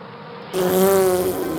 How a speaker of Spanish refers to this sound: Llegó una mosca.